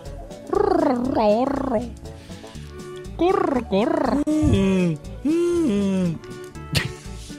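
A person imitates an owl call with several loud, wavering, warbling hoots that slide up and down in pitch, separated by short pauses and ending with a brief sharp catch.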